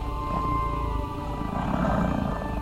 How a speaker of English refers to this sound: The city is peaceful, aside from the growling behind me, echoing down the alleyway as Hrao and our pursuer engage harsh words in their language.